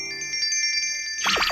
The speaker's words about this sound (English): My donut just croaked.